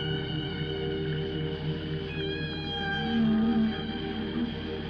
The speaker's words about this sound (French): Elle reconnaît le crépitement des algues et les notes tenues des cétacés.